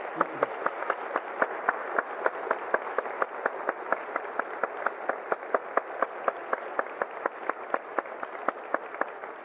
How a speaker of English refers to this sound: Let's just really give them a round of applause if you appreciate what they've done.